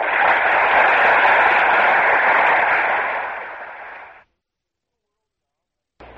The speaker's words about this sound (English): Listen to the applause.